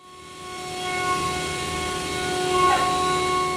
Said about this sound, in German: Blind gehorcht die Maschine einer Computervorlage. Sie sägt, bohrt, fräst und schleift das Werkstück. Wir befinden uns in einer kleinen Schreinerei im Dubliner Wohnquartier Crumlin. Es sieht aus wie in jeder Schreinerei.